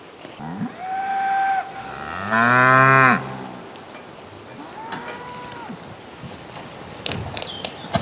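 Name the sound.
cows mooing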